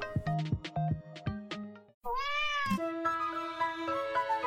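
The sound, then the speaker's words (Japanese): A cat, one of the cats often found at Ushibuka High School in Japan, meows repeatedly, with a series of short, clear mews followed by a longer drawn-out meow, and no talking. “このコーナーでは牛深高校によくいる猫の紹介をします。”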